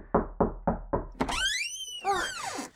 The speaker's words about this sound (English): I'm sorry, you just opened the door really fast.